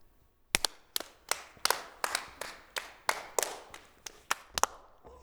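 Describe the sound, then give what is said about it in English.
A quick series of sharp hand claps passed around a circle in the game Pass the Clap, about a dozen in a steady, brisk rhythm, each clap slightly different in tone as if made by different people in turn, with no talking. “That's how you play Pass the Clap.”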